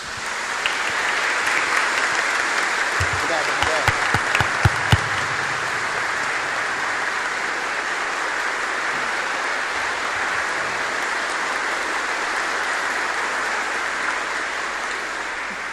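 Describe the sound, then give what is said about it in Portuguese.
A large crowd claps steadily in sustained applause welcoming the diocesan bishop and priests at a religious celebration, a dense, even wash of hand claps filling a reverberant space, with a few louder thumps early on and no voices standing out. “Vamos, neste momento, acolher o nosso bispo e nossos padres com a salva de palmas.”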